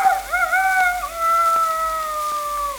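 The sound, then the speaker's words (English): An old Shanghai rooster crows at dawn in one long, drawn-out call that rises briefly, then holds a strained, harmonic tone that slowly sags in pitch, loud and alone for nearly three seconds. “The break of dawn is announced by an old Shanghai rooster who wakes the other denizens of the yard with his...”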